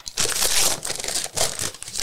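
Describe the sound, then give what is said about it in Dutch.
Wrapping paper being torn open and crinkled on a package holding a cookbook, the Vega Barbecue boek, a dense run of crackly rips and rustles in several bursts with brief pauses, loud and with no voices. “Je mag het open scheuren of het is allemaal niet netjes te schrijven.”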